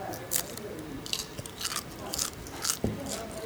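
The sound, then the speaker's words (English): Crisp crunching as someone bites and chews the crunchy, greasy skin of meat taken from a skewer, with sharp crackly bursts repeating every half second or so in an otherwise quiet setting. “It's very crunchy and very greasy, which is always good.”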